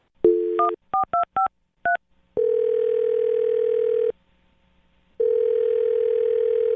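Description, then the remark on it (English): A short burst of dial tone gives way to a quick series of touch-tone keypad beeps as a man's phone number is dialed, then two long, steady ringback tones separated by a pause, loud with no voices. “Well, I'm going to dial his phone number right now, okay?”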